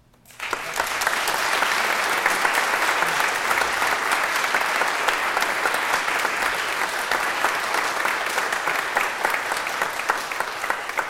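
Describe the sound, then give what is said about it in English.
An audience applauds steadily to welcome new members, a dense wash of many hands clapping that starts abruptly and holds at an even, loud level for about ten seconds without any voices. “Well, in addition to your applause, I'm going to invite you to ceremonially welcome these folks as well.”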